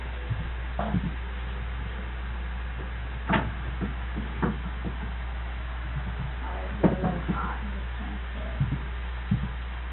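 Scattered rustles, light knocks and shuffling thumps as crimped oats are transferred from two small bags, over a steady low electrical hum with faint murmuring in the background.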